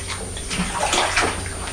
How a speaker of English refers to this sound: Hear all this water splashing about